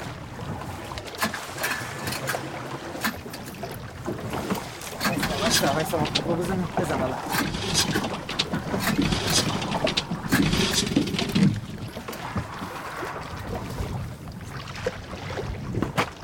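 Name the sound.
boat on the sea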